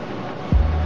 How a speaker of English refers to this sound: Call coming in. Lance's cell phone. Keeping his gaze on Givens, Bookman answers his phone.